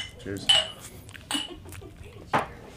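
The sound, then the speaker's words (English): Glasses clink together in a toast to Michael Jackson on his birthday, three bright, ringing taps about a second apart, fairly loud, with faint murmuring voices underneath. “So we should all raise our cheers to that.”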